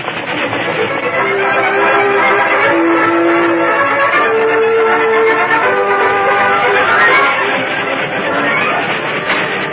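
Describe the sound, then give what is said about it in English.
An oncoming train beyond a canyon opening roars in a loud, dense rumble, its whistle shrieking in several sustained blasts over the clatter throughout. “headed for the canyon opening beyond which he could see the oncoming train”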